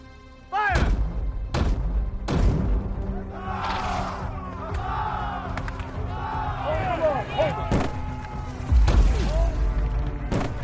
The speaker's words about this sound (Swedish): Kanonerna brakar som ett åskväder och kulorna haglar.